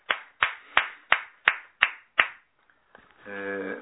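Applause in steady unison for a couple's 64th wedding anniversary, seven sharp, evenly spaced claps in a quick rhythm, fairly loud, followed by a brief pause before a voice begins speaking.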